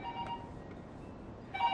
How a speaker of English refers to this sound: Just hit the pager button thingy on the base thingy. Ugh. The phone is on the opposite side of the room.